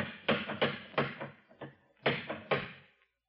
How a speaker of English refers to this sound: You could have heard that last knock out of the Farallone. Maybe he didn't hear you. Anyone in the neighborhood would have heard that, no?